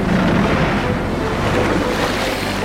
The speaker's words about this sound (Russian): Шквал идет с правого борта! Шквал? Да, видишь, полосу ряби на воде! Это он и есть! Приближается очень быстро!